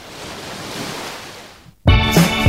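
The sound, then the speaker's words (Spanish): Steady wash of surf at Playa del Peñón beach in Salobreña, a soft rushing swell that rises and fades, then cuts abruptly to loud music. “Estamos en la playa del Peñón.”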